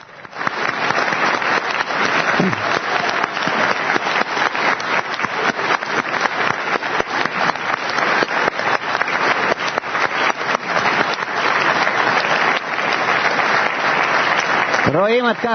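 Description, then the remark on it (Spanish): A large crowd at a congress applauds the group from Italy, steadily and loudly for about fifteen seconds, dense overlapping claps filling the room, with a brief voice surfacing near the end. “Vamos a darles un aplauso al grupo de Italia.”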